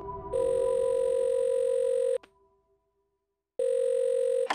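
telephone ringing

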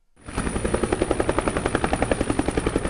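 helicopter flying

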